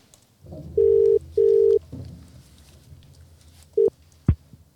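An outgoing phone call's ringback tone sounds clearly in a quick double burst, followed by a brief beep and a sharp click as the call connects and is answered, over a low background hum.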